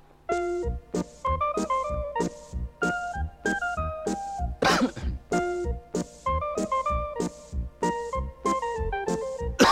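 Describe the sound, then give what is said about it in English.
A single sharp cough, made by a real person rather than electronically, bursts out midway through a bouncy, rhythmic jingle of short melodic notes in an advert for Vicks medicated cough drops, the notes playing steadily before and after it. “I'd better add the cough is not electronic either.”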